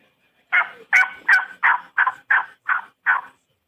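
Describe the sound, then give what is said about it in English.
A series of eight raspy plain turkey yelps made on a hand turkey call, evenly spaced and fairly loud, each note starting slightly higher before dropping into a rough, scratchy tail. “Just I would say a plain yelp. Just learn to do that. Try to get that little bit of a high front end and, and the rasp in the end.”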